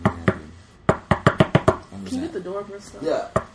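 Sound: knocking on a door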